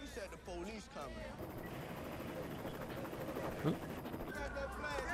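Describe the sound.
A helicopter's steady, dense rotor roar fills the scene at close range, with voices talking over it at the start and a brief sharper sound near the end.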